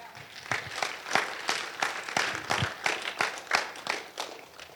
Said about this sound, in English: So just give yourselves a round of applause on that one.